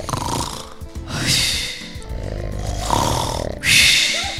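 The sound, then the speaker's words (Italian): A sleeping monkey snores loudly, with about three rough, rasping snore breaths that rise and fall in a slow rhythm. The final snort is the loudest, and no one speaks. “E con il suo potente russamento fa tremare le fondamenta della montagna. Rumore di russamento.”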